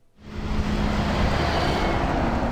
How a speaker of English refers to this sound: Traffic rolls by on the freshly paved stretch of Kanakanak Road in front of the Dillingham Boat Harbor.